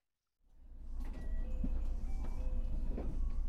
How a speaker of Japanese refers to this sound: あ、そろそろ着いちゃうね。 ねえ、ドア、もう閉まっちゃうよ。降りなくていいの？